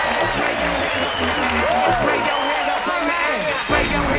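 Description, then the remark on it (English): A large audience at a live performance applauds and cheers loudly and steadily, with whoops and shouted voices rising over dense, continuous clapping throughout. “Give it up for your sweet selves.”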